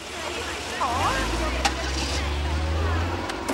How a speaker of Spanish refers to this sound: En la acera de enfrente, un coche de policía camuflado arranca tras ella.